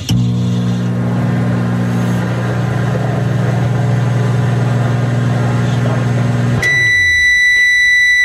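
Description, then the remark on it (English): A microwave oven hums steadily for several seconds, then the motor cuts off and a single sustained, high-pitched beep sounds at the end. Nobody speaks. “That's a microwave.”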